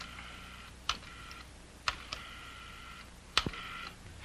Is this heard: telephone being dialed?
yes